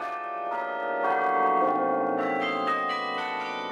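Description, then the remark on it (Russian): Carillon bells ring out from the famous bell tower of St. Rumbold's Cathedral, several tuned bells struck in a steady melodic sequence with long overlapping resonance, heard from the courtyard of a former transit camp that is now a Holocaust memorial and museum, with no voices. “Я стою во дворе пересыльного лагеря Кацерн-де-Сен и слушаю колокола карильона знаменитой колокольни собора святого Румольда.”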